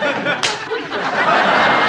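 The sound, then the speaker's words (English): A single sharp, loud slap across a hysterical person's face cracks out near the start, followed by a rush of agitated, breathy vocal noise like stifled laughter or gasping. “Slap a hysterical person across the face.”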